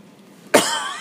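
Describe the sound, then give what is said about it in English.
A single sharp cough bursts out after a quiet moment, its breathy rasp trailing off briefly. “sorry, still got a little bit of a cough here.”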